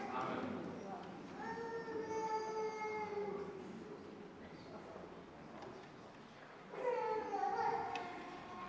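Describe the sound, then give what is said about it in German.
A small child cries in two drawn-out, wailing bursts separated by a short pause, moderately loud, with faint background noise in between, during a baptism in a church service. “Manchmal denke ich, wenn Kinder so weinen, ob sie nicht doch lieber katholisch werden wollen.”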